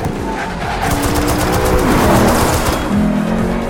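A car roars through a fast film chase scene, its engine loud and continuous with tire noise and bursts of impact or gunfire-like crackle mixed in, no voices present.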